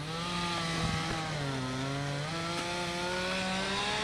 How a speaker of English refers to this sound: A crew of men used chainsaws and four-wheelers to cut up limbs and carry off the remnants of trees strewn about cluttered lots.